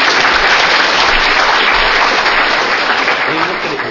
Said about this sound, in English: It's a simple task, give him a clap.